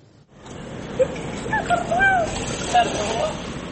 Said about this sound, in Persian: آب رودخانه فرات از نهر در این شهری یک زمان اشغال شده جاری است. اینجا رقه در سوریه است.